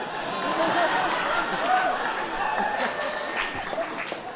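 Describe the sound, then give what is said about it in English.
An audience claps steadily for about four seconds, a dense, even patter of many hands with some voices mixed in, holding at a fairly strong level throughout. “I'm angry that that got applause.”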